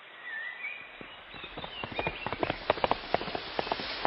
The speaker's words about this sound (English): The horse is fast.